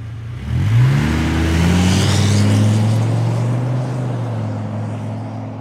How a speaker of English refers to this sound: He gets into his lorry and drives away.